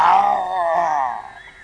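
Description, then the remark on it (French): A person imitates a tiger practising its roar with one drawn-out, growling vocal cry, loud, wavering in pitch before trailing off. “Le tigre s'éloigna, se battit les flancs avec sa queue, aiguisa ses griffes et s'exerça à rugir.”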